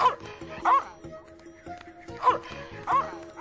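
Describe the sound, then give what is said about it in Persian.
A small dog, the talisman dog, gives four sharp, high-pitched yips and barks in two quick pairs, fairly loud, with a faint steady hum underneath. “این سگ کوچولو باید جاش امن باشه جکی.”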